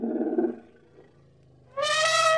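A deep, growling elephant call rumbles low, fades to a quiet grumble, then bursts into a loud, bright, brassy trumpet blast at the end. No voices are heard.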